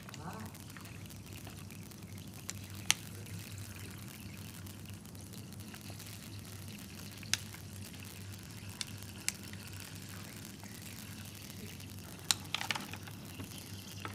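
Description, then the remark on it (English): Steady, soft hiss of water sprinkling down in fine streams from water bottles poked with thumbtack holes onto tilled and no-till soil samples, simulating rainfall, continuous over a low background hum, with a few faint clicks and taps scattered throughout. “So like I said, basically what I've done is I've put water in the water bottles, and we'd used a thumbtack to poke holes in that.”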